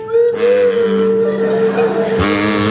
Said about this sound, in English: And that'll be Barry Cryer on kazoo and Graham Garden on Swanee Whistle.